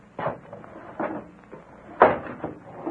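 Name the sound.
window being shut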